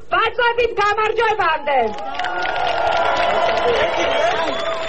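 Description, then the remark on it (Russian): A single voice calls out briefly, then a large crowd breaks into a sustained, loud roar of approval mixed with applause, continuing steadily to the end, in response to a new letter from the jailed Saakashvili being read out. “И в ответ вновь гул одобрения и аплодисментов.”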